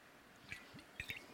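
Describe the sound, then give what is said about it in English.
Several quick, wet liquid sounds, a few soft gulps and drips spaced unevenly over a second, as someone takes a short sip of water from a bottle, with no talking. “Water time.”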